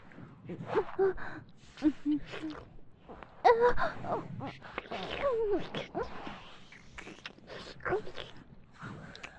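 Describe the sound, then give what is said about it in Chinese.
Loud, breathy gasps of surprise at seeing new evidence come in an irregular series, some catching into short voiced moans, with no talking alongside them. “我只是看到了这份新的证据，很惊讶，所以喘息声大了一点而已。”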